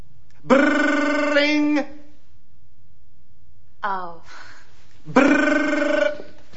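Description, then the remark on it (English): A voice imitates an office telephone bell ringing: two long, steady, buzzing rings separated by a pause, with a brief vocal sound in between, loud. “The phone is ringing.”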